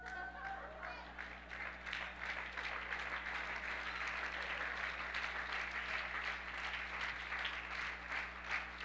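A crowd claps steadily for several seconds, a dense, even wash of applause with some murmuring voices mixed in and a low steady hum beneath.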